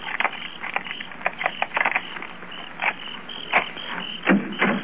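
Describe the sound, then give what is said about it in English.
Keys jingle and click against the lock of a locked back door of a house in a quick, irregular run of sharp metallic ticks and scrapes, with short pauses between attempts and no voices. “I'd like to try my keys first.”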